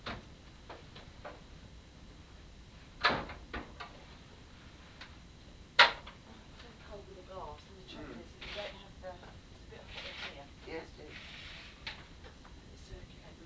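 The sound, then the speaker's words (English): Two sharp knocks a few seconds apart, like doors being shut, over faint rustling and muffled voices afterward. “I'm just leaving these doors because it'd be too cold to be out there once we go out.”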